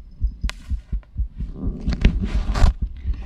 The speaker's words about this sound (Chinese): 这真的是心跳哟！